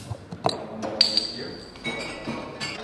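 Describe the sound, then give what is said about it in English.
Amber glass bottles of Lebanese pale ale clink together in a toast in Beirut: a sharp clink with a brief bright ring, surrounded by a few softer taps and knocks, with low voices murmuring in the background. “Cheers.”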